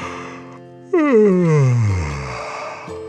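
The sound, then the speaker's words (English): A narrator of a children's story imitates a dragon's long, drawn-out yawn, starting with a loud open rise and gliding steadily downward in pitch over about two seconds before trailing off. No words are spoken. “Feeling content, Dragon yawned,”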